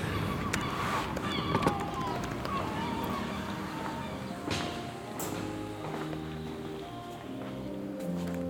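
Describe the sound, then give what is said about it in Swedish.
Gulls screech and cry over a busy outdoor scene, with footsteps, clattering and faint voices mixed into the moderately loud background. “Men vi tar och flyr Måsskränet in till Heliga Trefaldighets kyrka”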